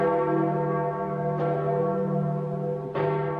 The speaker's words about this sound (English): Catholics around the world are still waiting to hear that sound, the ringing of St. Peter's largest bell, which, along with white smoke from the Sistine Chapel, will signify a new pope has been chosen.